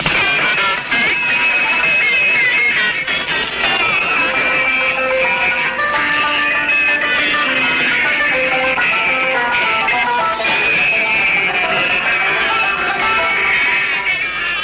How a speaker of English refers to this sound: Now here are the examples. First, adjacent channel interference.